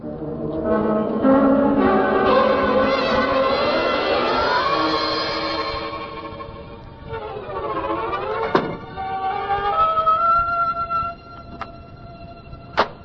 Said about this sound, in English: Well, it sounds like a storm blowing up.